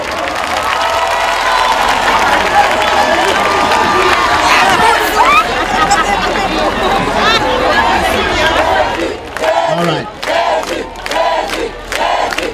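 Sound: crowd clapping and cheering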